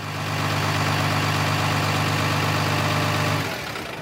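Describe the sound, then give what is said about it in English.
The engine of a sheep truck that has just arrived at a farm idles with a steady, loud low rumble and throbbing hum for several seconds, then the tone drops and shifts near the end as it winds down. No one speaks. “Hey, Baza, take a look at what just arrived at the farm, exclaimed Sheila. Blow me down, Sheila. Is that a sheep truck?”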